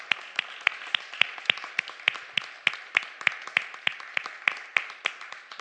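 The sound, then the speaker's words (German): A crowd at a church service applauds Jesus Christ steadily, with sharp individual claps standing out above a dense, continuous patter of many hands, sustained at a fairly even loudness throughout. “Lass uns einmal Jesus Christus einen Applaus geben.”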